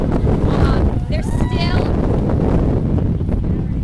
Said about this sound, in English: A little windy out here catching the tail end of hurricane or of Tropical Storm Sandy, but and what a great turnout considering the weather.